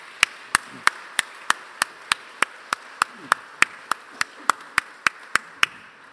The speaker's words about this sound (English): In fact, we don't usually applaud here in church, but this time I'd make an exception.